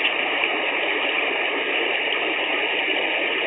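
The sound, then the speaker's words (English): Gas from a seep at Divide Creek, Colorado, bubbling up through water around a funnel over the seep in a steady, dense hiss and gurgle, continuous and even in loudness throughout with no distinct pops, and no one speaking. “Now, the whole seep's not covered. It's still bubbling all around it.”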